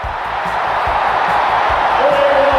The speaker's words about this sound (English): The Hornets win the game at the buzzer. Listen to this crowd.